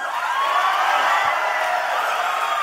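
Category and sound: crowd, audience cheering loudly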